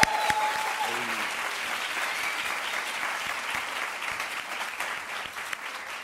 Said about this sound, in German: Dafür gerne schon mal Applaus.